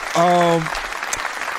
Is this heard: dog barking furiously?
no